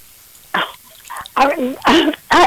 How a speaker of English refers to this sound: Excuse me, I got a cough here.